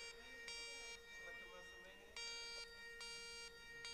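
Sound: phone alarm ringing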